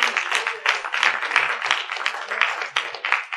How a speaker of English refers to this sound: Give my hand clap of praise.